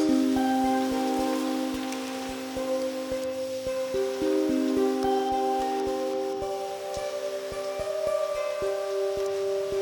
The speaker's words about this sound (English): And I tried to use noise removal software to get rid of the rain, but I accidentally had the settings flipped, and so I only got the rain sound and the jangly bits and none of the taps themselves.